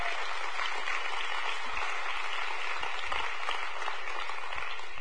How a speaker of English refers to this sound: Go ahead, fellas. Clap your hands for tithes and offerings, please.